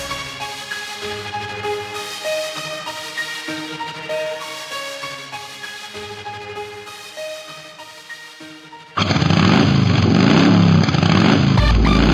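After several seconds of music, a loud motorcycle engine suddenly roars in, revving hard for about three seconds until the end.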